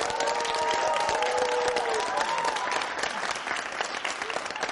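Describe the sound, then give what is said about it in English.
An audience at a hall applauds Malcolm Butler steadily, a dense wash of clapping that runs the whole time, with some cheering voices rising over it early on before the clapping eases slightly toward the end. “One more round of applause for my man, everybody.”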